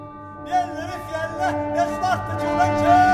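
Church bells ring from a distance in a steady series of strokes about every half second, their overtones humming on between strikes. No one speaks.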